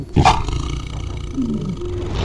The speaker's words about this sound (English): You'd walk in and hear growling, roaring. I mean, it sounded incredible. Raw power. And he loved being there. He just loved it. All those noises of like 20 cats all together vocalizing at the same time.